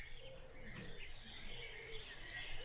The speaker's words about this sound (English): You have any idea about this bird? You ever heard it before? Let's hear it again.